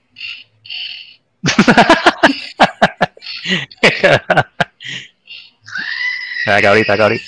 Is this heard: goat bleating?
yes